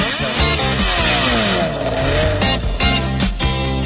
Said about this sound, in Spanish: Qué maravilla, que me gusta el sonido del motor de una moto. El escape.